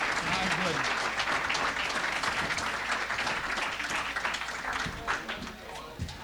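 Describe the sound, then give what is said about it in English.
A crowd applauds steadily for a group of fiddlers, a dense wash of many hands clapping at an even, loud level throughout, with faint voices mixed underneath. “And how about one more round of applause for all our fiddlers today?”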